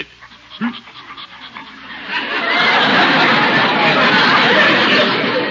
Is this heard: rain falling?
no